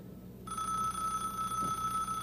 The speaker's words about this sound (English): Telephone's ringing. Let's see who it is.